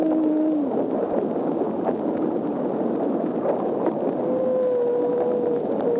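Humpback whale song recorded underwater: a few long, wavering moans and a rising tone drift through a constant wash of dense, hissy background noise, with no one speaking.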